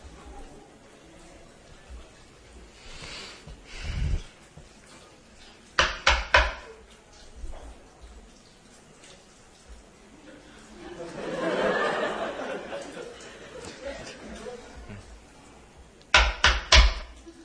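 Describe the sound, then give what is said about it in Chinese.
Sharp knocks on a wooden tabletop, struck like someone knocking at a door: a single rap, then a quick set of three, and later another triple knock, with a burst of audience laughter in between. “我敲这个， 敲桌子。 我这么敲。”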